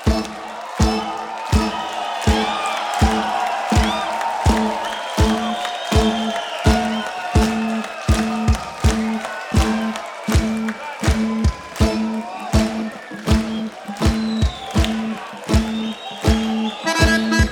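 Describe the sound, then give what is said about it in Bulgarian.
A loud crowd claps in a steady, fast rhythm, with cheering voices and high whistles rising over the beat throughout, as someone walks out onto the stage. “Дорогие друзья, под ваши бурные аплодисменты на сцену выходит...”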